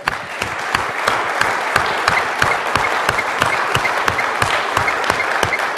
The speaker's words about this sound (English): and in her absence, so it's something that can be carried to her as a blessing, I'd like to ask you all to give Anne Stevens a gigantic clap.